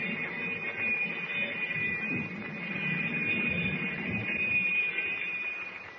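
A steady, high-pitched alarm bell rings without a break for several seconds inside a submarine. It is a 30-second warning bell before torpedo fire, its shrill tone holding over a low, rumbling mechanical hum. No one speaks.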